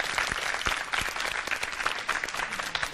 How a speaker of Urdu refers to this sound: ان کی بھی ایک مرتبہ زوردار تالیوں کے ذریعے حوصلہ افزائی کی.